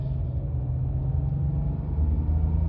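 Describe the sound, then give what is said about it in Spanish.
A steady, low car engine rumble heard from inside a car on its way to a meeting in Barcelona, a continuous droning hum with a deep tonal drone and no voices. “Estamos en el coche.”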